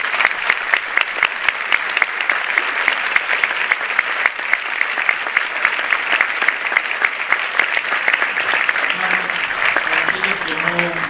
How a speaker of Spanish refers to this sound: Y lo recibimos con un aplauso.